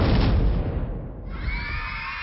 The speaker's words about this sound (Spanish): Había invitado a todos los niños de su colonia para que vieran su gran experimento, pero al momento de presentárselos, el gran robot siembra árboles explotó.